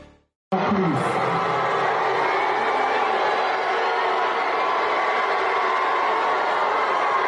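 crowd booing

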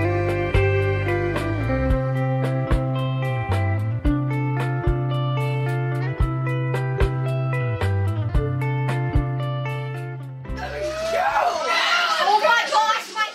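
children shouting

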